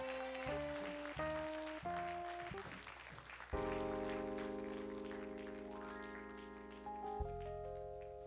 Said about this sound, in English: Now will you give the Lord a hand clap of victory?